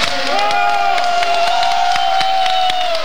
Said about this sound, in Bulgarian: 4 декември 2007 година, около 2,5 следобед, правителството на летище в София. Тези аплодисменти и още много бяха за героите, волейболните национали.